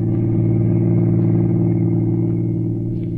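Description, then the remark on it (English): A car engine hums steadily with a deep, continuous low rumble, tires rolling smoothly at constant speed along a lonely highway, with no pauses or voices over it. “For the next evening at 8, he was behind the wheel of a car, rolling smoothly along a lonely highway.”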